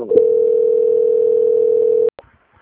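telephone call transfer tone

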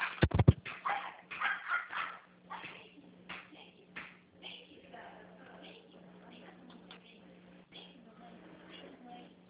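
dog whimpering and barking

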